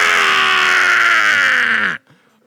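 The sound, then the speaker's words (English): A person imitates the Wilhelm scream with one loud, sustained, strained yell of about two seconds. The pitch holds steady, dips slightly at the end, then cuts off abruptly into silence. “Would you try to do an actual Wilhelm Scream.”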